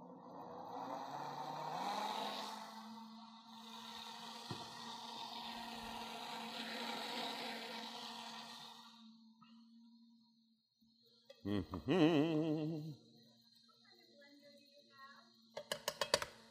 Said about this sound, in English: What kind of blender do I have? It's a super fast, super blender.